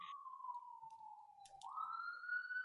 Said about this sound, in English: And there's that siren again. Closer.